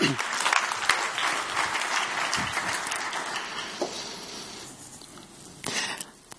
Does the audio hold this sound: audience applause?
yes